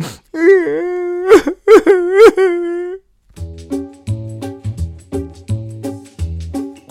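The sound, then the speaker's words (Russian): Loud, drawn-out wailing sobs for about three seconds as Binky, a tiger cub in a story, sits and cries bitterly, a voice crying and whimpering in broken bursts, then the crying stops and a few gentle musical notes follow. “Он сел и горько заплакал.”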